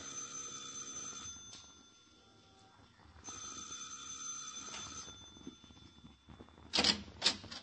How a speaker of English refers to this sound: Now, you ring the bell, Danny.